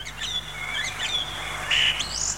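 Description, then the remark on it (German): A song thrush sings a run of clear, varied whistled phrases with sliding notes, fairly loud over a faint low hum, with no voices. “Singdrossel.”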